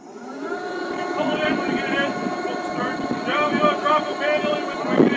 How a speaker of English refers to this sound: It's a windy afternoon in Lynn Canal, time for a safety drill on board the ferry Malaspina. Instructions blast over the PA system as crew members in orange float coats lower rescue boats over the side.